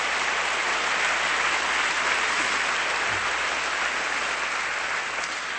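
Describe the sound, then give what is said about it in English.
An audience gives a last round of applause for the preacher at the close of a sermon, clapping steadily throughout, a dense wash of many hands blending into continuous applause with no talking over it. “Would you give him a last clap tonight?”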